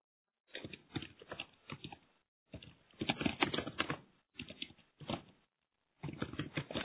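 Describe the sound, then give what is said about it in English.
Rapid, clattering computer keyboard typing in several bursts separated by short pauses, fairly loud, with no voices. “Oh, now we can hear you typing”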